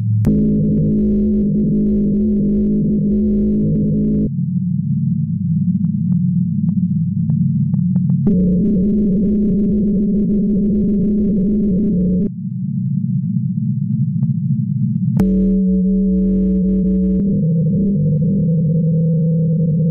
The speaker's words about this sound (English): the ice shelf song is too low in frequency to be heard by human ears, but it has been made audible by speeding up a 2015 recording of the ice shelf's vibrations about 1,200 times.